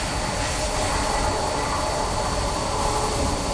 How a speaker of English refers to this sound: Can you hear the train? Red! A red one. A red one, a red train.